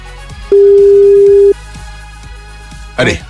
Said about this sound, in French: Attention, ça sonne quelque part, c'est peut-être votre téléphone.